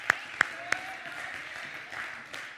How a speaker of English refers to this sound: Let's give you a hand clap.